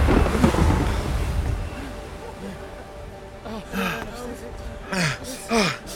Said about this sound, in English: What just happened? Even the winds and the waves obeyed him.